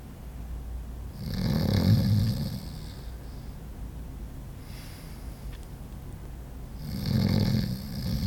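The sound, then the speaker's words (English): A man breathes heavily in his sleep, two loud, rasping, snore-like inhales several seconds apart with a softer breath between them, and no talking. “I watched him breathe for a moment.”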